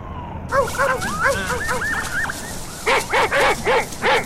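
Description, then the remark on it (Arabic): A small dog standing under a tree in a forest whimpers in a run of high, wavering yelps, then lets out five quick, sharp barks in a steady rhythm, fairly loud. “وهم يتجولون شاهدت النعامة كلبا صغيرا مسكينا واقفا تحت شجرة، وقد جمع كمية من الأخشاب والعيدان حوله.”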